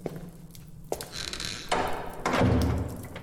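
A door creaks with a thin, squeaky hinge sound, followed by a shuffle and then a heavy, low thud as it shuts. No voices are heard.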